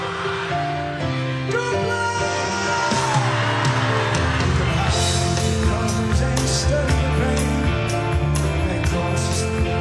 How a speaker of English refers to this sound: And as you heard there, the crowd could sing it all on their own, which is quite some going for an album track that's almost 50 years old.